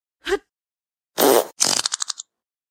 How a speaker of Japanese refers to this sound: ああ、気持ちいい。顔面に屁ぶちかますとか最高。優越感しかないわ。